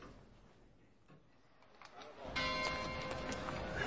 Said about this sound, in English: The clock struck 10.